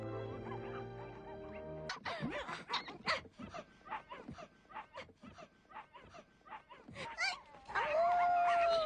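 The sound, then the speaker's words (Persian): A young dog, Alu, yips and whimpers in short bursts after a brief musical opening, then breaks into a sustained, wavering howl near the end, fairly loud. “علو عزیزم، دست از یوزه کشیدن بردار باشه.”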